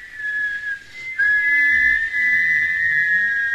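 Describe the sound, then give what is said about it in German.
A long, drawn-out human whistle holds one steady high pitch, breaks off briefly, then resumes louder and carries on unbroken to the end, with no talking. “Pfeifen Sie stärker, stärker! Ein langgezogener Pfiff.”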